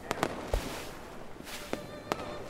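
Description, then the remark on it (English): Fireworks bang and crackle at irregular intervals, about half a dozen sharp bursts popping over a steady hiss of background noise, with no voices; the fireworks are watched from the beach at Piffling Vale. “And as we watched the fireworks, Eric Chapman came over to join us.”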